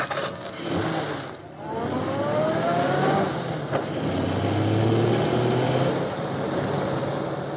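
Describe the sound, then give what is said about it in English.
A car engine roars steadily along an otherwise empty highway as the car passes, its pitch climbing as it accelerates, a loud continuous rumble with a rising whine and no voices. “Hey, look, that's the car we're waiting for.”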